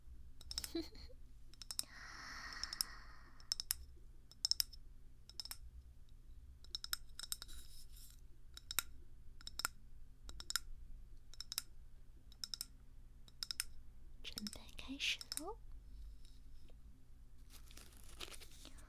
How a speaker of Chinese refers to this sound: 在敲的这个玻璃瓶子啊，里面放的全都是长杆的火柴。